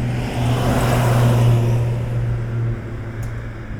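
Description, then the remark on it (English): Outdoors on January 1st, 2009, a passing car's engine revs loudly, a steady low droning roar that holds for a few seconds before easing off as the vehicle moves on. No one speaks. “The car agrees, apparently.”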